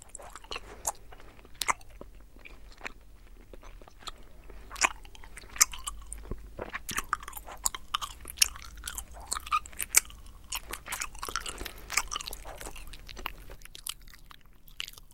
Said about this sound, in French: Les bruits de bouche, pas n'importe lesquels, ceux qui évoquent le goût, mâcher, saliver, les bruits de lèvres. À commencer par ceux que tout animateur de radio tente de ne pas produire.